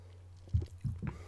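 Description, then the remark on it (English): Quiet sipping of strawberry lemonade: two or three short, wet slurping and swallowing sounds in quick succession over a faint low hum, with no talking. “Let me take a little sip.”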